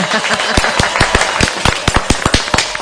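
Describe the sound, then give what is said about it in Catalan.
Loud farewell applause from a group for two guests, with many sharp, irregular claps crackling together in a dense, steady wash for a few seconds, no voices standing out. “Vale, doncs us acomiadem amb aquest fort aplaudiment a vosaltres”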